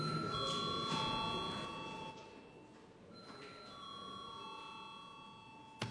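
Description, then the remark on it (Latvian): Bright ringing bell tones repeat in overlapping strikes across several seconds, sustained and fairly loud, over a low murmur of room noise, as a bell is rung in a parliament to call deputies to a secret vote on approving a judge for the Daugavpils land registry office. “Lūdzu zvanu.”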